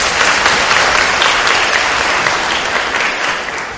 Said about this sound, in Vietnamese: Chúng ta cho một tràng pháo tay.